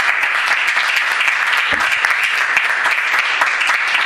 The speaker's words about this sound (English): So please join me in a round of applause for the public.